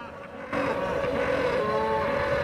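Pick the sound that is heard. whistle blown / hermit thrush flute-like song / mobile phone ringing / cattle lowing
cattle lowing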